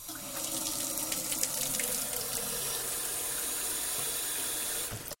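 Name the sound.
water running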